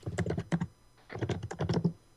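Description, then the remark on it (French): Loud, rapid typing on a computer keyboard: two bursts of hard, clattering keystrokes separated by a short pause, with no talking. “Mais qui est en train de taper très fort sur son clavier comme ça ?”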